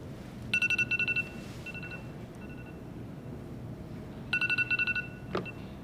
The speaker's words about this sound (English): It's my timer.